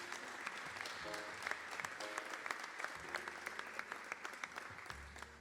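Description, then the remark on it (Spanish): Sustained applause from a festival audience as a band is received on stage, a dense steady patter of many hands clapping at an even loudness for several seconds, with faint low tones and murmurs underneath. “Y como no, también para recibir en este escenario, que continúe el aplauso para, en este caso, ….”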